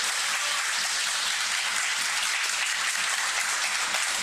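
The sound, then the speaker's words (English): A large crowd applauds and cheers steadily before the first singles match of the night, a dense wash of clapping that stays loud and even throughout with no voices standing out. “crowd hyped and ready for this one.”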